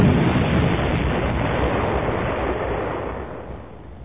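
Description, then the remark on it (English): Two blue missiles fire and strike their target, a cylindrical tower near a construction droid, with a heavy, roaring blast, a dense low rumble that holds steady before slowly fading out over about four seconds, with no voices. “When he hit the trigger, two blue missiles streaked out and hit dead on target.”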